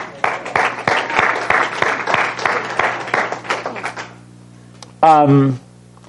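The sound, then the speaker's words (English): An audience breaks into applause, a dense crowd of hand claps that fades out after about four seconds, followed by a short sung or spoken voice rising briefly on its own. “And I think you should give yourselves a big hand clap for that.”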